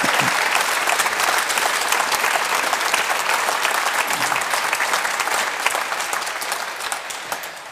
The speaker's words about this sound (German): Er hört hoffentlich unseren Applaus hier aus München.